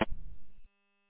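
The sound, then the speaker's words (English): A short burst of radio interference from another station: a sharp crackle of static, then a low, rumbling noise for about half a second before it cuts off abruptly, leaving only a faint steady hum. “I can never tell if it's people trying to get in or if it's interference, but they sound the same.”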